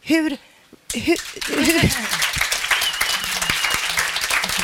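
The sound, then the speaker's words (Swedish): An audience breaks into sustained applause, dense clapping that swells and holds steady, with a few cheers and laughs mixed in. A brief voice is heard just before the clapping begins. “Och nu får du applåder och kärlek också.”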